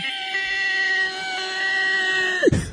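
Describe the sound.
A voice lets out a long, shrill, sustained squeal like a pterodactyl cry, held steady for over two seconds before breaking off with a sudden downward slide and a brief breathy burst.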